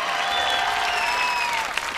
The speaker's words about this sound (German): Ich hoffe, du hörst dem Publikum und du siehst, wie die Berliner dir zujubeln. Du bist es allerdings in letzter Zeit natürlich etwas gewöhnt. Im Grunde jubeln dir alle zu.